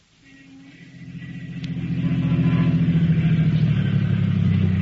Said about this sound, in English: Two men were riding in a car which was pulling to a stop in front of a house in East Baltimore.